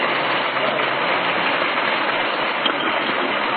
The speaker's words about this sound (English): Naturally, the act is met with a great deal of approval from the audience, as you can hear by the applause.